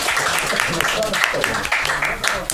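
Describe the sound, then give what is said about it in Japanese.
A burst of steady applause from a group, many overlapping claps forming a dense crackling wash that holds at an even level, with voices talking over it. “拍手とかないんですか。”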